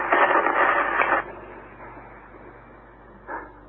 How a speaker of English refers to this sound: Static. Nothing but static. Desperately, I twisted it from one end of the band to the other, praying for a human voice, a bar of music, anything. There wasn't a single radio station still in operation.